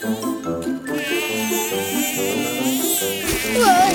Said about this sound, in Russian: А еще тут полно комаров.